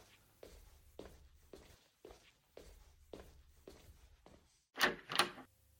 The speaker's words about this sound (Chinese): 啊，谁呀？一大早上就敲门。